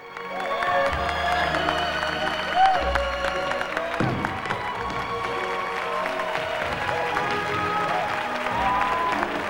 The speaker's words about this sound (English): smiles broadly in enjoyment while applauding.